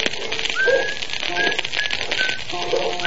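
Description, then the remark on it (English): A person whistles a light, broken tune of short notes on a foggy morning on the deck of a canal boat at the Herkimer lock, over a steady clattering, hissy background noise. “With this fog, what you got to whistle about?”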